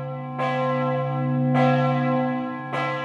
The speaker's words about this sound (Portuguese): O choque de metal com metal nos sinos das igrejas sempre teve múltiplas funções. Desde a mais comum, que é avisar as horas, até uma comunicação complexa com os fiéis, chamando para as missas ou anunciando comunicados urgentes.